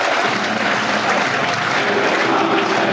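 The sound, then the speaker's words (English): A sellout stadium crowd in South Bermondsey applauds steadily as Millwall and Crystal Palace come onto the pitch for an FA Cup match, a dense, loud wash of clapping and cheering that holds at an even level throughout with no individual voices standing out. “Two teams just coming onto the pitch, as you can tell. A sellout crowd, hot atmosphere, dear listeners.”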